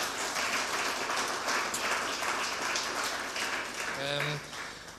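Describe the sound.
An audience applauds a speaker after a talk, steadily, a dense crackling wash of many hands clapping that holds for the whole stretch, with a brief voice sound rising out of it near the end.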